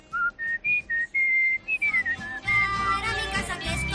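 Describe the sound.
A person whistles a bird-like tune, imitating birds, starting with a run of short, bright chirps, then sliding into longer held notes as a denser, fuller background sound joins midway.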